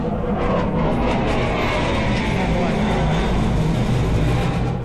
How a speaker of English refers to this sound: Okay, that was a big plane, obviously, with a lot of noise.